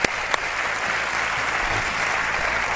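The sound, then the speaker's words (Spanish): A theatre audience in Murcia, Spain breaks into sustained applause, a dense, steady wash of many hands clapping at once with a couple of sharper claps near the start, loud and unbroken throughout. “Os pido un gran y fuerte aplauso para todos los que habéis estado aquí en este teatro.”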